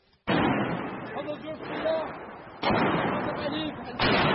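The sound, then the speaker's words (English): Artillery shells fired by Syrian government forces pound an already shattered neighbourhood of Homs, Syria: three heavy, sudden booms, each followed by a long, loud rumbling roar that barely fades before the next blast, with faint voices underneath. “The Syrian regime has pledged again to halt this, but the shells are still falling and there's little evidence that any troops have been withdrawn.”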